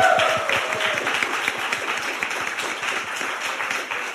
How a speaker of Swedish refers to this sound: Hon är juristen och radioankare på Tankesmedjan i P3. Ge en varm applåd till Dilan Apak.